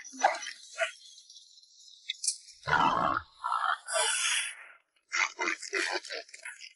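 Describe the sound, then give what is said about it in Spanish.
A giant wild boar lets out a loud, deep roar in the middle, surrounded by shorter snorting grunts and rough huffs, forceful, with voice-like sounds mixed in. “Pues a Finn, pero también a un puerco salvaje gigante. ¡Ahí!”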